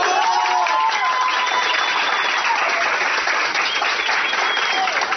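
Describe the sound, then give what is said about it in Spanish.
Sustained applause from a group of authorities in Barranquilla, Colombia, celebrating the extinguishing of a fire in the city's industrial zone that burned for almost 60 hours. Steady dense clapping at a constant loudness for about five seconds, with faint cheering and whistle-like tones mixed in. “Así, con aplausos y abrazos, autoridades en Barranquilla celebraron la extinción del fuego en la zona industrial de la ciudad, la cual se mantuvo por casi 60 horas.”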